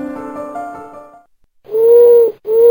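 An owl hoots twice, loud and close: a long, steady hoot followed almost immediately by a second one, coming in after a soft tonal sound fades into a short silence.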